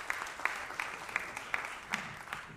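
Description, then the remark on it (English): A concert audience in a theater applauds, a dense, steady crackle of many hands clapping, with brighter claps surging at a loose, regular pulse. The applause is fairly soft and continues throughout without any voices. “And how about another hand for the theater manager?”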